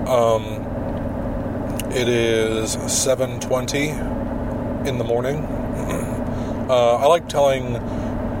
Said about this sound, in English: As you can probably hear, I am in my car once again.